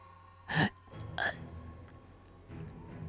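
Two sharp, strained gasps for breath a moment apart, like someone being choked, close and fairly loud, followed by a faint breathy struggle over a quiet background.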